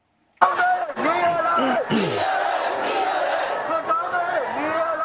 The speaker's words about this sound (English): Activists gathered chanting slogans in Yangon.